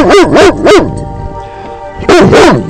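A female dog barks loudly, three quick barks in a row, a short pause, then two more, with no one talking.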